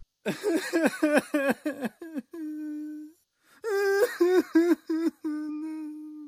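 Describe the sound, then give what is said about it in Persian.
A person's voice imitates how a poet is said to have cried rhythmically as a baby: two runs of short, evenly spaced wails, each ending in a long held cry, clear with no other sound. “گفته شده که در نوزادی و طفولیت حتی گریهشانم موزون بودن. مثلا اینی تو گریه میکردن.”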